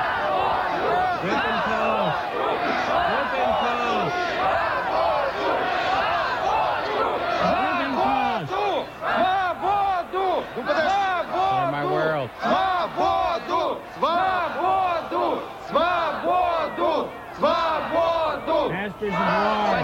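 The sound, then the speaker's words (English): A large crowd chants the name "Dave" over and over, not booing, a loud, dense roar of many voices rising and falling in a steady rhythmic pattern for the whole stretch, with no one speaking alone. “They weren't booing, they were chanting Dave, Dave, Dave,”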